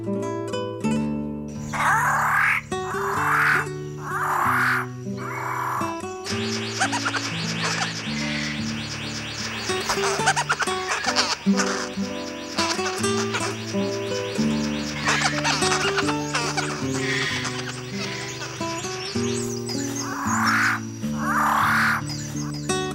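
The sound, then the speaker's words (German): Harsh, raucous calls of a bird of paradise ring out loud, a crow-like cawing that comes in repeated bursts at the start and end, with a dense, continuous stretch of calling between them. “Das war der Paradiesvogel.”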